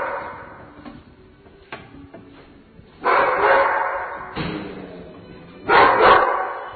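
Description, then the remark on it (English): Several dogs bark loudly in a kennel, with three big bursts of overlapping barking after a stretch of quieter thumps and shuffling. “There's puppy stuff here, and then this is the other parts of the puppy kennel.”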